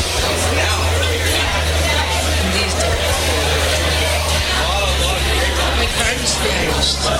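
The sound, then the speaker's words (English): Steady, dense crowd hubbub of a busy bar at night, with overlapping indistinct chatter and a low, constant background hum, holding an even loudness throughout without any clear individual voice. “Are we still doing Busy Bar at Night ambiance?”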